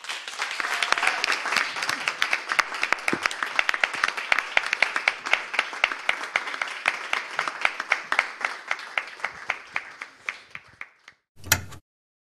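An audience claps in sustained applause after a reading, continuing until the last sheet of paper is picked up, a dense crackle of many hands that slowly thins out over about eleven seconds, ending with one brief louder burst.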